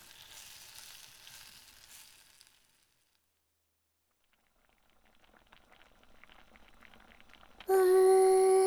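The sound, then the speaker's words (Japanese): Food sizzles in a cooking pot with a soft, steady hiss as a dish cooks and is stirred until it thickens. After a brief quiet gap, the crackling returns and builds, then a loud, sustained tonal ringing cuts in at the end. “この音聞いてるだけでもお腹空くよね。”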